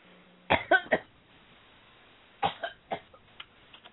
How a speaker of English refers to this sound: That cough just gets to him, and sometimes the longer he talks, the worse it gets, so it's hard for him at times.